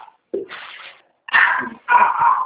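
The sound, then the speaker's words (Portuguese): A dog whimpers and lets out a few short, strained barks in three bursts, moderately loud, with brief pauses between them. “É cachorro?”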